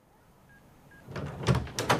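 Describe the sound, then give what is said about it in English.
A door is opened and shut, a rustling swing ending in a couple of solid knocks, after a quiet start with two faint short beeps. “You okay with the door? Yeah, I think so. I've got it.”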